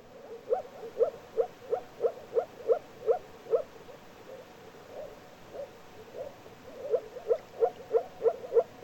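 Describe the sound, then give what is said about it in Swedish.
A moor frog gives its bubbling call: a steady run of soft, low, hollow pulses, about three per second, that fades briefly midway and then resumes just as evenly. “Åkergroda. Letet ett oavbrutet bubblande.”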